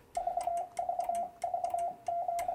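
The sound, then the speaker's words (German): A steady Morse code tone keyed on a Morse key, spelling VVV followed by a dash: a repeating pattern of three short beeps and one long one, over and over, with the key's faint clicks audible and no talking. “Das war jetzt VVV und ein Bindestrich, gerade dass man versteht.”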